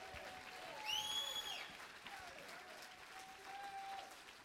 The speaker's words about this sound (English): Somebody clap your hands a little bit.